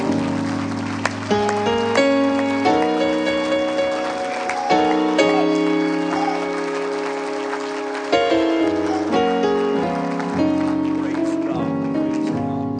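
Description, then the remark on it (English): An audience at a morning church service claps its hands to Jesus in a steady, dense patter that fills the whole clip, layered over loud, sustained organ chords that shift from one to the next. “If you do, just clap your hands to Jesus one more time.”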